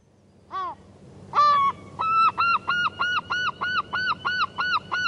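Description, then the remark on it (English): A herring gull calls loudly: two opening wails, then a rapid, rhythmic series of about ten harsh, laughing yelps, with faint background noise and no talking. “But the herring gull is a mighty and surprising creature.”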